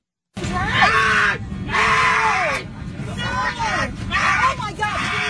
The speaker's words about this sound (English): Oh my God. That guy's screaming.